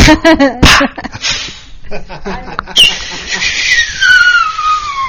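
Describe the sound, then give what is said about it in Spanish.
Fireworks rockets going off: several sharp cracks and pops early on, then a long whistling rocket tone sliding steadily downward in pitch, with voices faintly underneath. “Ahí están los cohetes. Los cohetes, no los borrachos, ¿eh?”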